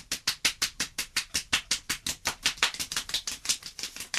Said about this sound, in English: But you're quite literally just slapping your thighs. Yeah? Yeah, it's hard. He's an 85-year-old man. That's enough exercise for him.